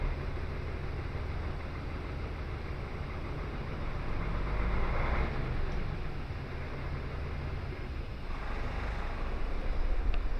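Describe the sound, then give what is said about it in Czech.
An engine runs with a dense, rumbling drone, swelling slightly in loudness a couple of times as it's revved with the vehicle's doors closed. No voices are heard. “Zkusíme si ještě poturovat, když máme dveře zavřený.”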